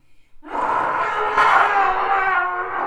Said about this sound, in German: Zunächst hört er ein Stampfen. Dann ein Schreien.